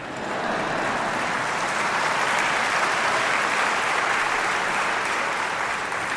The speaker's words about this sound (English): I'll take 4 claps today.